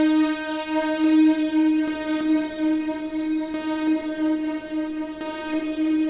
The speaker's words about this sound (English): going to use a low frequency oscillator, and I'll explain what these things are as we go along, to basically turn the signal on and off. Now, because I've got all this reverb, even after I turn the signal off, it's going to kind of hang for a minute.